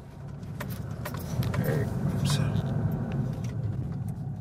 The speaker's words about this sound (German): manövriert sein Auto über eine holprige Straße in Sahidabad.